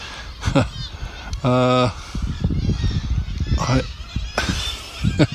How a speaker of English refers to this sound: The seagulls are taking a bet, I think.